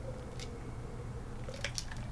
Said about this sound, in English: Ooh, drinking break again. Twice in one chapter. Fantastic. Water first.